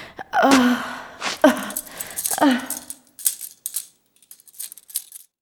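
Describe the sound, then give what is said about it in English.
Handcuffs being put on and locked ratchet shut in a quick series of light metallic clicks and rattles, following a few strained vocal gasps and grunts. “Put them on, or I'll call a few constables in here and we'll put them on for you.”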